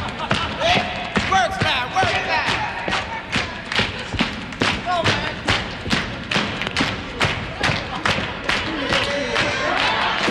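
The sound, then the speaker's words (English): Steady, rhythmic slapping on chest and thighs as Sly performs a chest and thigh slap rhythm routine in the crowd, a quick run of sharp hand-on-body hits at an even beat, with crowd noise and voices murmuring underneath. “After a full minute in the crowd, Sly gets maybe a tenth of the audience members to clap along before he breaks into a chest and thigh slap rhythm routine.”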